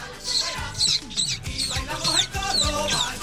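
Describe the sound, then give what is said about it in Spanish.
A rapid run of about seven squeaky, chirping goldfinch kisses made by sucking air inward through pursed lips, imitating a goldfinch. The squeaks are fairly loud and evenly paced, with low thumps beneath. “ahí va la explicación de cómo se hacen los besos de jilguero.”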